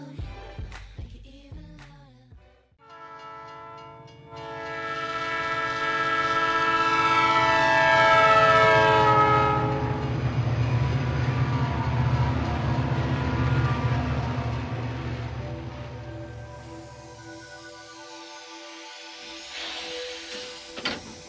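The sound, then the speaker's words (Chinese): A train rolls along the rails with a heavy, steady rumble and a loud, sustained horn blaring over it, swelling before gradually fading away. “王虎下了火车”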